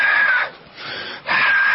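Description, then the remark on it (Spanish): A voice imitates the strained grunt of exertion people make while training: two loud, tense, drawn-out vocal bursts with a quieter strained breath between them. No words are spoken. “Es cierto, hay gente que hace ruido sí. Mientras entrena. Sí, señor. Ruido de esfuerzo.”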